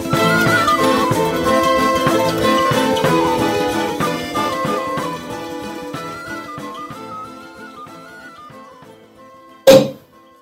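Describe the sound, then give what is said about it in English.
Lively music plays and gradually fades, then a single sharp, loud cork pop bursts out near the end as a bottle of Prosecco is opened in Alberobello, Italy, followed by a brief fizzing tail. “Well, that cork popping wasn't the sound of Caleb Ewan's bottle of Victory Asti Spumante popping on the podium.”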